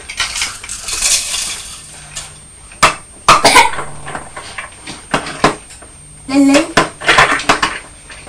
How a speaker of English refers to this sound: Are you tipping the cornflakes?